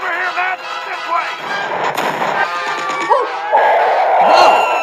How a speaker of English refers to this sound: The flying reptile breathes fake fire as a cannon shoots invisible rounds at it.